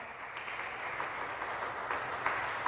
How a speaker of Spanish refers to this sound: Un fuerte aplauso a la Virgen de la Caridad.